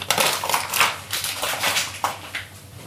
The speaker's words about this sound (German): So, jetzt ziehe ich gleich mal 180 Gramm Zucker auf den geriebenen Ingwer in den Topf reingegossen, also geschüttet. So, passt.